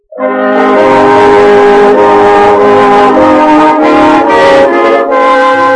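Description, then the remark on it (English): A loud, sustained train whistle blows steadily for several seconds, its chord of harmonic tones holding strong over the rumble of a moving train from San Francisco near Desert City, Utah, in a Hopalong Cassidy radio story, with no speech. “On the train from San Francisco, a little way from Desert City, Utah, Hoppy in California see a traveling companion named Jason Jones taken to the outer platform of their car by two strangers who had just boarded the train from fast horses.”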